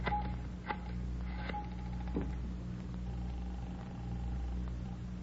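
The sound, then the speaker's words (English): A telephone being dialed to place a long-distance call: a few sharp clicks and rattles spaced over a few seconds, set against a steady low hum and a faint, thin sustained tone, with no one speaking. “Could I use your phone, Miss Waters?”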